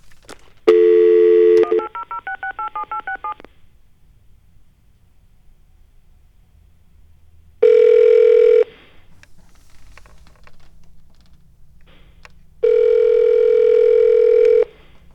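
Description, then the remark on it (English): A brief dial tone gives way to a quick run of touch-tone beeps as a toll-free 1-800 number is dialed, followed after a pause by two long ringing tones on the line, clear, with no voices. “what happens if we call 1-800-NO-TRUMP?”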